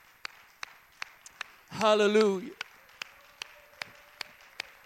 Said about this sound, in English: Why don't you clap your hands and lift your voice?